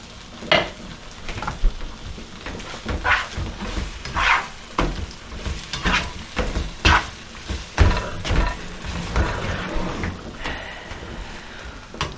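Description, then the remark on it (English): A pan of curry sizzles and hisses steadily as water is poured in, with irregular louder bursts of crackling and scraping from stirring throughout. No one speaks. “Alright, time to add some water to this curry.”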